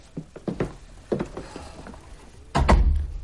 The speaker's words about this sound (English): Shut the door.